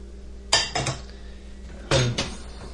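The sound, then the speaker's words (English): Dishes being unloaded from a dishwasher: a few sharp clinks and clatters of plates and cutlery in two brief clusters, separated by a quiet pause, with no one talking. “If I keep unloading, I'll remember the dishwasher.”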